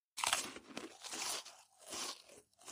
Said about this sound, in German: Das sind so Chips oder so, glaube ich, die da gegessen werden. Ja, lecker mit offenem Mund Chips essen.